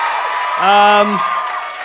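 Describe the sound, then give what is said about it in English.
An audience applauds in a steady, dense wash of clapping, with a single voice calling out briefly over it in the middle. “Thanks for clapping now.”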